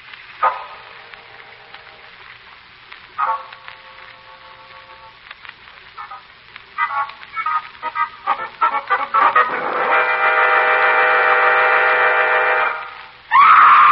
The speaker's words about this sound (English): that scream.